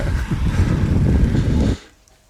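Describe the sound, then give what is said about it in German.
Strong wind at the Timmelsjoch mountain pass buffets the microphone during the climb toward the top, in a steady, low, rumbling roar with a broad hiss on top, then cuts off abruptly after under two seconds, leaving near silence. “Aber was ich da krass finde, man hört da den Wind.”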